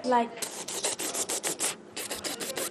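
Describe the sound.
A voice mimics rapid gunfire while using the hands as a gun, showing the violence in Syria: a short voiced sound, then about a dozen quick, breathy, hissing bursts in two fast runs separated by a brief pause, at moderate loudness.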